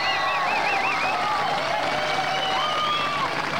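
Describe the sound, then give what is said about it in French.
Steady, dense audience applause fills the whole stretch at an even loudness, with wavering high whistles and shouts rising over the clapping. “Maintenant d'applaudir ou essayer, oui, de...”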